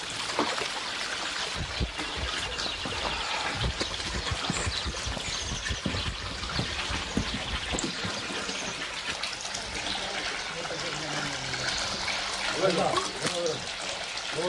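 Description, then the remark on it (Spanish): Water trickles and splashes steadily from a Roman stone fountain in a village, continuous for the whole stretch, with indistinct voices of women murmuring faintly in the background. “Digo adiós a las mujeres a las que dejo en su trajín en la fuente romana”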